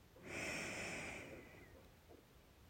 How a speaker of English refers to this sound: And every time you take a deep breath in, allow yourself to feel that breath moving throughout every cell of your body. So taking another deep breath in.